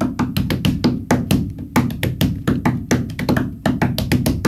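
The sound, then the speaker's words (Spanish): Hands drum a fast, rhythmic pattern on a wooden table, with crisp slaps and knocks giving a hollow, woody resonance. No voices are heard. “¿Como una ahora, silla de madera? ¿Por ejemplo, en la mesa?”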